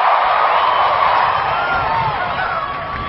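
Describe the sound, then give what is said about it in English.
A large crowd of the graduating Class of 2009 roars and cheers loudly and steadily, with scattered whoops and shouts rising above a dense wash of voices, without pause. “I don't think I heard you. Class of 2009.”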